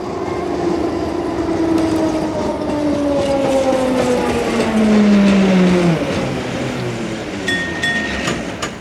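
A tram rolls along its rails with a steady rumble, its wheels letting out long metallic squeals that slide downward in pitch, then a brief high whine near the end. No voices.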